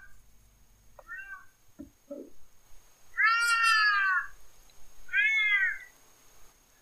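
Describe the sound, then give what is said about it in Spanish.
Two loud, drawn-out meowing calls from an Iberian lynx during its mating season at the start of winter, the first longer than the second, with a few faint, brief chirps and scuffs before them and no talking. “Y maullidos como los que estamos escuchando, comienzan a oírse en los pocos lugares en los que aún sobrevive esta especie amenazada de extinción.”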